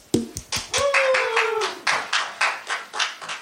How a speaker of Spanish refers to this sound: Hola! Gracias por el aplauso.